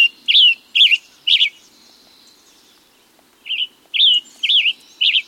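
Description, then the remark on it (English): A tanager sings a clear, slightly burry warbling song, three quick phrases, a two-second pause, then four more, distinct against a quiet background with no voices. “To be sure that the tanagers continue to return for the summer, consider reaching for shade-grown coffee.”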